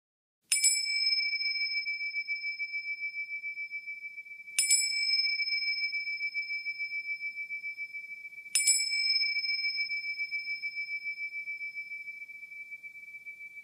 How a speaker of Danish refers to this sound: Øvelsen starter, når du hører tre klokkelyde. Den varer 10 minutter og afsluttes med tre klokkelyde.